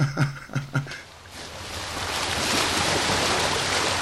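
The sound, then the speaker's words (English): Ocean waves wash steadily against the shoreline at Savonga in the Bering Strait region of Alaska on a sunny July day, a broad, rushing surf that swells in after a second and stays fairly loud, preceded by a few short, tonal bursts at the start. “From Savonga's shoreline, the bright blue water stretches as far as the eye can see on a sunny July day.”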